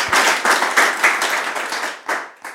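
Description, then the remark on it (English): A church crowd applauds the Lord together in a dense, steady wash of hand claps with slight rhythmic surges, fairly loud, then thins out toward the end with a few scattered final claps. “Yeah, you can applaud the Lord. Let's applaud Him.”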